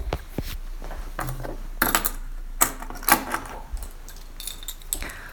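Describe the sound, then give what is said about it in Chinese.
A small metal padlock rattles and jingles as it is handled, with several sharp metallic clicks, one like the shackle snapping shut, as a chastity lock is fastened on a man. No one speaks. “这样呢就可以上锁了。来，把锁头拿过来。”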